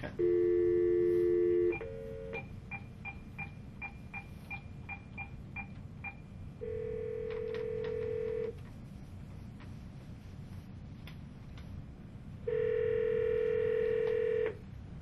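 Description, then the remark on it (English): A steady telephone dial tone, then a quick run of about ten short keypad beeps as a number is dialed to call a Microsoft Speech Server demo application over a lab telephone line, followed by two long ringing tones separated by a pause, with faint background hiss. “You need a telephone line hooked up to the servers. We have in our labs a telephone line hooked up, so...”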